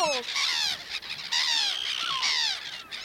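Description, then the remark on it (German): Several seagulls at a rubbish dump behind houses squawk as they are chased away, in a loud, overlapping flurry of harsh, descending cries, calling almost continuously for about three seconds with a brief dip in the middle. “Und Möwen verjagen macht immer Spaß.”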